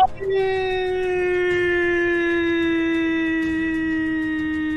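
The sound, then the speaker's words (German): A single long, sustained scream, coming closer from far away, holds one wailing pitch that slowly sinks over about five seconds. It is loud and steady, with no talking over it. “Du hörst einen Schrei von weitem näher kommend.”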